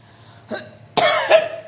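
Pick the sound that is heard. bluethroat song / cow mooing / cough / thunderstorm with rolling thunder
cough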